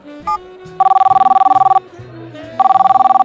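A telephone rings in two loud bursts, each a rapid, warbling electronic trill at a steady mid pitch, separated by a short pause, with a low background rumble underneath.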